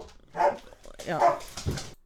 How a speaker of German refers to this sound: Ja, so, ich muss noch eine kurze Pause einlegen, weil die Hunde haben hier angefangen zu bellen. Genau, und man hat es, glaube ich, auch gehört, mal ganz kurz, aber ihr solltet es ja nicht durchgehend hören.